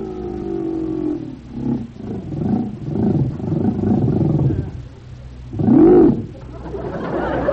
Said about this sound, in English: this was a good idea of yours, renting this motorboat. Yeah, it's fun cruising around the open sea like this.